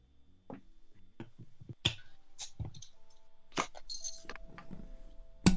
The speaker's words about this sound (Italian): E quindi direi stappiamoci la nostra birra e poi passo la parola a te, così ti presenti un attimo, ci dici un po' cosa fai e diamo inizio alla serata.